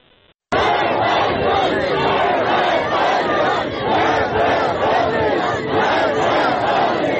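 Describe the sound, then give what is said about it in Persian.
A large crowd chants the slogan 'Death to Khamenei', many voices shouting in a loud, steady rhythmic surge that begins abruptly after a brief quiet moment and continues without pause. People gathered at the grave of Fuad Mohammadi, killed during the protests, in Kamyaran. “در کامیاران مردم بر فراز مزار فؤاد محمدی که 24 آبان ماه در جریان اعتراضات کشته شده بود جمع شدند. شعار مرگ بر خامنه‌ای سر دادن.”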